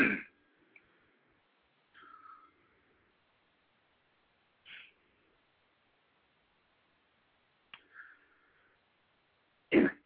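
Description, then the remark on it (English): A host on a live call-in broadcast gives a few short, rough coughs and throat-clearing bursts spaced out over several seconds, with quiet pauses between them and a louder, harsher cough at the very end. No one speaks. “Excuse me, I have to hit the cough button here.”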